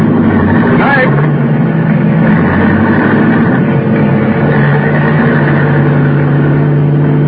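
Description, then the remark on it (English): A car engine runs loud, its low rumbling drone holding steady as the car starts off after the driver gets in, with a brief rising whine near the start. “I could hear his steps coming over the car, and then getting in, and then we were starting off.”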